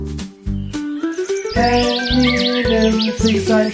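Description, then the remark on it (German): Rapid, bright bird chirps and tweets flutter over a short musical jingle, the twittering growing busier in the second half of a brief, loud sound effect played from a bird-watching button. “Ich brauch bitte einmal den Vogelbeobachtungsknopf.”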